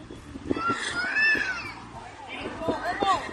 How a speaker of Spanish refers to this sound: como la que se grabó en la entrada del centro comercial Luz del Tajo en Toledo, donde varios coches quedaron atrapados en la carretera con unos niños llorando en su interior. Está el niño acojonado.